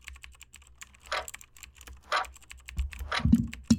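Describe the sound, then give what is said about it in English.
Fast, steady keystrokes clatter on a computer keyboard as someone types the alphabet in a timed speed test, a quick run of crisp clicks punctuated by a few louder clacks, with no one speaking. “we're going to give you 3 tries each, whatever keyboard of your choice, and we'll see what kind of times you put up.”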